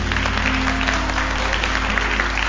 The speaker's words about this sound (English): Let's honor the Lord one more time with a good hand clap of praise. Hallelujah. He's worthy to be praised.